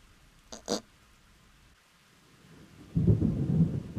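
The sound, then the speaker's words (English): A brief sharp crackle, then quiet steady background before a loud, deep rumble of thunder rolls in near the end over a soft wash of rain. No one speaks. “It rained and it rained and it rained”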